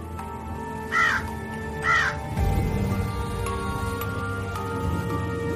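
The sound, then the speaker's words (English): A crow caws twice, two harsh, evenly spaced calls, followed by a steady rushing, rustling background noise with no voices. “A very good bird.”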